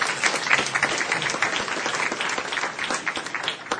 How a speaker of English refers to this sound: Well, I wanted to do two things. First of all, one more round of applause for Lael and the fantastic moderators that we had.